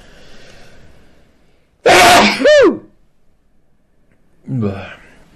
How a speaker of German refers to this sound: jetzt muss ich niesen.